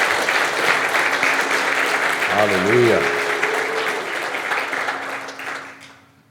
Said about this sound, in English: Well, let's give Jesus a hand clap of praise. He's worthy of our praise.